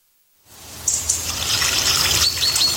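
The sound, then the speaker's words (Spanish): After a brief silence, water starts flowing and keeps up a steady, fairly loud rush, with bright splashy detail on top and no voices. “Donde fluye el agua, crece la vida en nuestras comunidades.”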